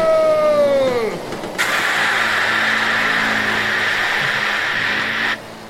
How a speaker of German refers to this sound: Mit Benjamins Rüsseldüsenantrieb zischt das Flugzeug wie eine Rakete nach oben.